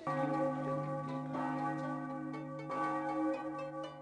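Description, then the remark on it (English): Church bells ring continuously, their layered metallic tones overlapping and sustaining with a fresh strike every second or so, fairly loud and reverberant with no voices present. “Those bells.”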